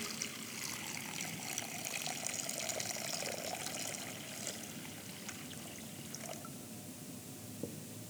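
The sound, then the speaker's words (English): Water is poured steadily onto rocks and splashes into a bowl during a remembrance of baptism, a continuous bright trickling and spattering that stays even for several seconds, with no voices. “But hear this water pour onto the rocks, into the bowl.”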